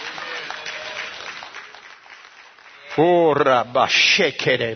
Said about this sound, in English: Thank you for the claps. Man, that's a new one.